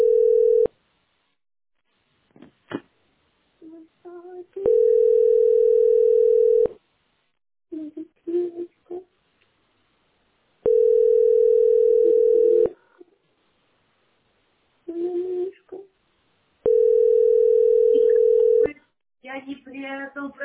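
A telephone line tone sounds while a call is being placed, in steady two-second beeps separated by pauses of about four seconds, clear and fairly loud, while muffled voices talk quietly in the gaps.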